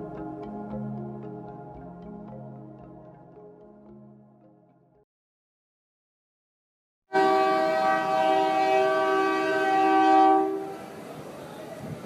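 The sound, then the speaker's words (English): A freight train's loud, sustained horn blares for several seconds over a heavy rumble of rolling cars on tracks beside a migrant shelter in Ixtepec, Mexico, then cuts off, leaving the train's grinding noise continuing. “The freight train used to pull into Ixtepec, loaded with Central American migrants”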